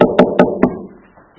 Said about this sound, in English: So the King ran off hurriedly to get assistance, and he found a little cottage deep in the forest, and he came to the door and he knocked.